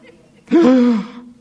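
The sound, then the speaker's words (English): A single sudden, voiced gasp imitated by a speaker, a sharp rising intake that swells into a brief whooping tone and cuts off after under a second. “What do you think the gasp was like when she went, whoop?”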